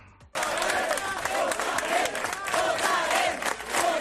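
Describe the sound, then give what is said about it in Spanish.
A large crowd erupts into loud, continuous shouting and yelling after a brief quiet start, with overlapping voices, sharp bursts of cries and claps, staying intense and chaotic throughout, as police try to enforce the law on 1 October in Catalonia. “Este era uno de los momentos en los que la policía trataba de hacer cumplir la ley, porque de eso se trataba aquel 1 de octubre, por mucho que gritaran.”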